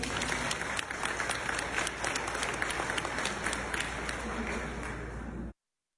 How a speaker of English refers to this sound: It's the sustained applause that really makes the difference there.